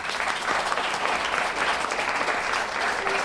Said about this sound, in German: sondern auch großen Applaus an dieser Stelle